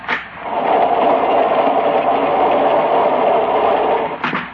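A steady, loud mechanical rattle and rumble of a passenger train rolling along the rails, heard in a narrow corridor aboard the train as it lurches, continuous throughout with a brief clank near the start and again just before the end.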